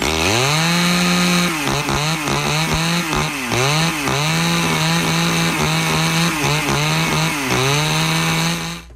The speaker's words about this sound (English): That's a chainsaw. That is a chainsaw.